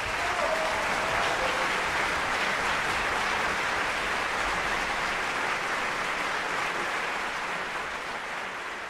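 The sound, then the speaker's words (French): Sustained audience applause for a volunteer receiving the Fortin-Thérien 2000 award from the Société francophone de Victoria, a dense steady wash of clapping that stays loud throughout and eases only slightly toward the end, with no voices standing out. “S'il vous plaît, applaudissons tous cette bénévole hors pair”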